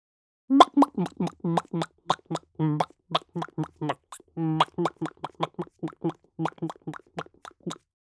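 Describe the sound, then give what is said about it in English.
A chicken at rest clucks steadily in a long run of short, throaty pulses, some drawn out a little longer, at a relaxed, even rhythm for about seven seconds. “Chicken at rest.”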